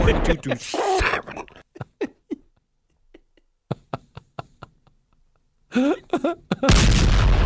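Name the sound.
cannon firing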